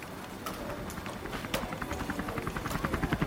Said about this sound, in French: L'hélicoptère. J'en ai encore des frissons. Drôle de mort qui m'a saisi là-haut, au-dessus de la centrale accidentée.